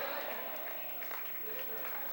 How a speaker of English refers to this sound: Oh. Oh. Clap your hands. If you're doing it and don't want to do it, don't you clap. God Almighty. Oh, clap your hands.